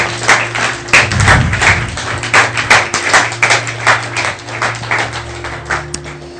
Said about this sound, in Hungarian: Adjunk egy nagy tapsot azoknak, akik meghozták ezt a döntést.